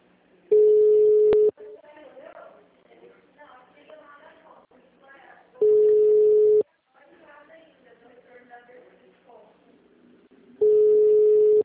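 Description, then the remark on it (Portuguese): A telephone line rings: three steady, low-pitched one-second tones repeat about every five seconds, loud against muffled voices talking quietly in the gaps between them. “A mulher tá falando que o meio agora tá tocando o telefone.”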